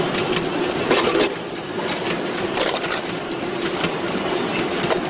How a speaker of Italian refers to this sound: Questi rulli fanno la prima separazione perché la carta che è più leggera rimane sopra e prosegue il suo viaggio.